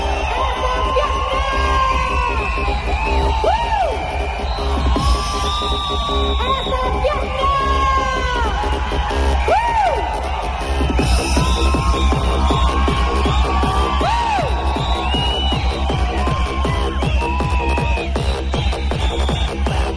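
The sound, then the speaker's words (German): A large concert crowd screams and cheers continuously, dense and loud, with rising whoops and yells piling over a steady roar for the whole stretch. “Die lassen dann richtig die Urschreie los und jubeln und es überflutet einen in dem Moment auch wirklich Gänsehaut.”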